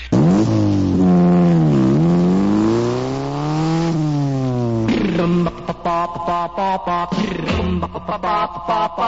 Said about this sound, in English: A motorcycle. Motorcycle.